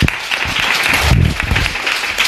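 A crowd claps steadily and loudly, dense scattered hand claps filling the whole moment, with a brief murmur of voices underneath.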